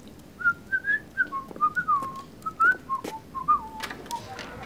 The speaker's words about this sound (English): Wolves don't bark, they howl. I can't howl. I can whistle.